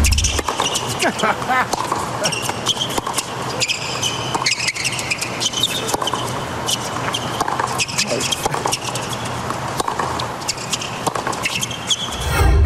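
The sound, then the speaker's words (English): Sneakers squeak again and again on the tennis court at the US Open final in Flushing Meadows, sharp high-pitched chirps coming in quick irregular bursts, with dull thuds and a steady murmur of background noise underneath. “There's more noise this morning when I woke up with the US Open final from Flushing Meadows, I think the squeakiest court on earth.”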